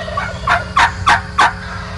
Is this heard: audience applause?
no